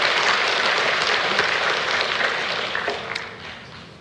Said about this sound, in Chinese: 好，愿主大大使用我们这些传福音的勇士们，让我们用掌声来鼓励我们的弟兄姐妹，好吗？感谢主哈。